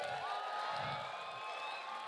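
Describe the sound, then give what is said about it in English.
An audience practices cheering for first-time preachers: a crowd cheers loudly and steadily, a dense wash of many voices with high whoops and yells rising over it, sustained for the full couple of seconds. “Let me just hear how you cheer.”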